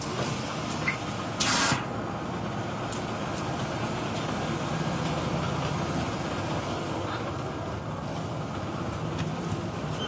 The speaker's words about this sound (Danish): Nu skal vi altså lige med bussen.